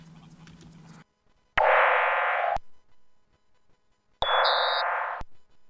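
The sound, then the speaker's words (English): Two loud electronic tones from a monitor after its power button is pressed, each about a second long, separated by a pause; bright, buzzy and harmonic-rich, the second carrying extra high-pitched components. A faint low hum precedes them. “Suddenly the tones are louder, and there are differences in the sounds as well, presumably reflecting the different text and graphics on the screen.”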